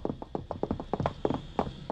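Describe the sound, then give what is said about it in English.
Rapid running footsteps of someone heading for the fire escape at the back, about a dozen hard, clattering taps in quick, slightly uneven succession, steady in loudness, with no voices over them. “He's heading for the fire escape at the back, Mr. Clover. I can tell by the sound.”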